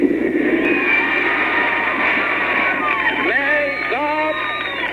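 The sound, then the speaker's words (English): A crowd of over 100,000 at Battery Park, New York, roars and cheers in pouring rain for Pope John Paul, in a steady, dense wash of noise that stays loud throughout, with a few individual voices rising above the din toward the end. “Well, before a crowd in excess of 100,000 in a pouring rain at Battery Park, Cox got what he wanted.”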